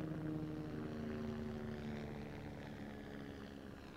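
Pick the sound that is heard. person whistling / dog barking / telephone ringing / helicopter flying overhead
helicopter flying overhead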